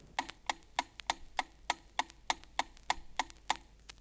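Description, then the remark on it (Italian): A metronome ticks steadily at a brisk 200 beats per minute, about thirteen sharp, even clicks in four seconds, with no voices. “Il metronomo, che è uno strumento perfetto, ti può dare battiti in numero di 40 a 200 circa al minuto”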